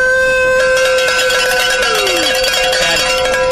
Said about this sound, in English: So it's all about the cowbell. It's all about the sounds of bike racing.